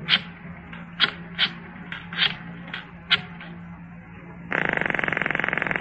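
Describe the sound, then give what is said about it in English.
A phone number being dialed: about eight short, crisp clicks at uneven intervals, then a steady, harsh buzzing tone that pulses rapidly and holds to the end. No one speaks. “I dialed his number.”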